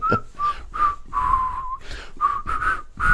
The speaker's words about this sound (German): Dann pfeift doch die Melodie. Ja.